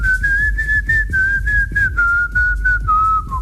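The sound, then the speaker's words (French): A woman whistles a pop tune, loud and continuous, the melody wavering around a narrow pitch range in uneven steps, with faint low thumping underneath. “Ben on vient d'avoir la femme qui siffle moins bien au monde.”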